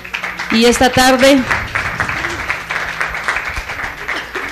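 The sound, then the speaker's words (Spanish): Audience applause: a dense, steady wash of many hands clapping that holds loud for several seconds and then eases slightly, with a raised voice briefly audible over it near the start. “Pues les voy a pedir a los presentes que les brindemos un fuerte aplauso.”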